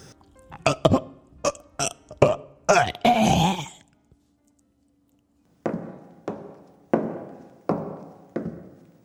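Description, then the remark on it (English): A lactose-intolerant cat named Larry retches and gags in a run of harsh, throaty heaves: a quick cluster of spasms, a brief pause, then five more spaced, rasping heaves. There's no talking. “Oh, Larry, you vomited again.”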